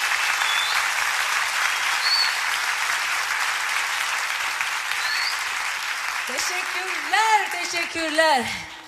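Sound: audience applause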